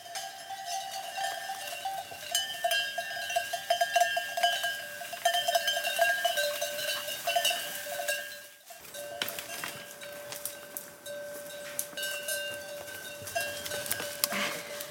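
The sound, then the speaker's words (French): A steady jangle of many cowbells as a herd of goats moves about, the bells clanking continuously, with faint rustling underneath and no talking. “Faire gaffe aux chèvres volantes ici.”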